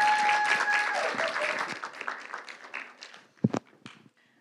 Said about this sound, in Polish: Wielkie, wielkie brawa.